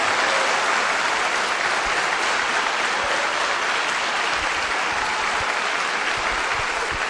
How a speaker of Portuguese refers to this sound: Quantos podem aplaudir o Senhor?